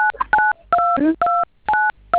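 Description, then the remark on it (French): A series of five loud telephone keypad tones from a caller pressing the buttons of their phone during a call. Each is a short, steady dual-pitch beep, pressed in a quick irregular rhythm, with brief snatches of voice between the first few. “J'entends les boutons de votre téléphone, je ne vous entends pas bien.”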